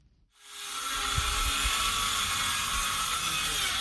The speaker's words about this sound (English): The roar of power drills fills the air in the village of Guidemartin, a typically quiet community of 2,000 people located some 100 kilometers from the Senegalese capital of Dakar. It's an unusual sound to behold in a village with no electricity